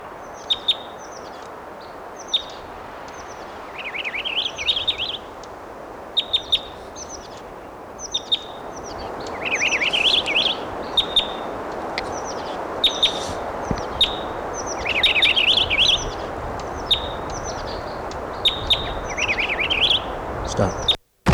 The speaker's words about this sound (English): This is a purple finch.